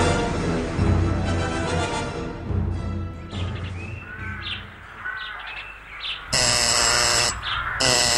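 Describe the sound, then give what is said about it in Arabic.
A harsh, loud doorbell buzzer sounds twice near the end, a long blast followed by a shorter one, after a stretch of busy music-like background with chirping tones. “لما لا تفتحين الباب؟”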